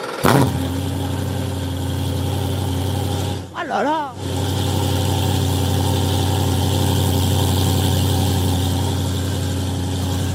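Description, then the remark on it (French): A race car engine fires up with a sharp burst, then settles into a loud, steady, rumbling idle that fills the whole clip, briefly interrupted by a short spoken exclamation. “Ah non, c'est impressionnant le bruit que ça fait, puis là on est qu'au ralenti.”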